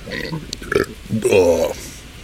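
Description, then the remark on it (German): A loud, drawn-out burp rumbles for about half a second, preceded by a few softer throaty gulping noises. “Hört ihr eigentlich durch das Mikro auch die Geräusche, die so in meinem Bauch vom Innen kommen oder nur, was ich so von außen rein rülpse?”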